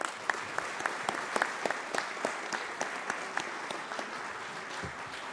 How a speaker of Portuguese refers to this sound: Uma salva de palmas a todos os destaques.